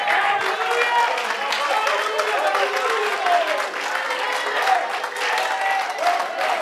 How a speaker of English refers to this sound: Go ahead, somebody clap your hands. I feel the Holy Ghost.